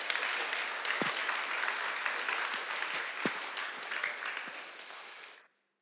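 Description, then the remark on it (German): An audience applauds steadily for about five seconds as participants step down, a dense wash of many hands clapping at even loudness, with a few sharper individual claps standing out before it cuts off abruptly. “Nochmal Applaus, wenn die runtergehen hier.”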